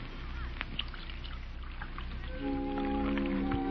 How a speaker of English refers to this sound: You know, there's something about a woman pouring tea. I don't know. Seems to bring out something in her. It, well, I don't know.